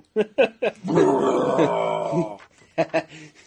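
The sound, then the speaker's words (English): A person vocally imitates a loud, monstrous burp by the story character Mitch: a long, rumbling, guttural belch lasting over a second, bracketed by a few short sharp vocal bursts before and after. “Mitch burps.”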